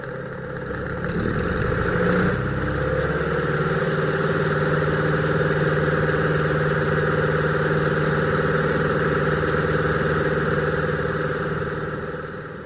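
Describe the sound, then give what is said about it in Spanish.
A light aircraft engine runs through its run-up test before departure clearance is requested: a loud, steady propeller drone with layered harmonic tones that shifts pitch briefly early on, then holds constant to the end. “Eso me dice, cuando terminamos la prueba de motor y me dispongo a pedir autorización para la salida.”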